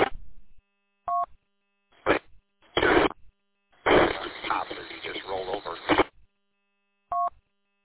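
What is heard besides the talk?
alarm beeping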